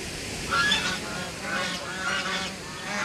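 A flock of geese honks noisily in overlapping bursts, their harsh calls rising and falling in waves over a steady outdoor background, as the geese head down to the water's edge and then turn away from the water.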